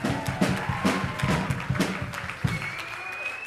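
Audience applause, a dense crackle of many hands clapping steadily at moderate loudness, with a faint rising tone sliding in near the end as the clapping begins to thin.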